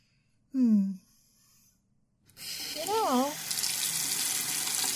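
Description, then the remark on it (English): A tap turns on partway through and water runs in a steady rush to fill a glass with drinking water, growing slightly louder, with a short vocal sound before it and another briefly over the flow. “I might need some water. How about you? You need some water? I'm gonna get us some water then.”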